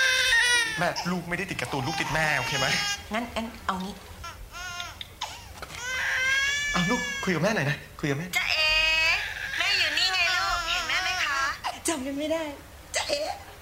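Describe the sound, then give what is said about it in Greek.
A baby cries loudly and continuously, wailing in rising and falling bursts with brief catches of breath between them, filling the whole stretch with fussy, sobbing cries, while someone tries to comfort it. “Με το μωρό, η μητέρα πήγε να ψωνίσει και προσπαθεί να βρει τρόπους να το παρηγορήσει.”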